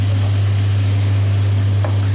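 Squid sizzles steadily in a hot frying pan with tomatoes, a dense, continuous crackle with a low electrical hum beneath and a brief stirring clink near the end. No one speaks.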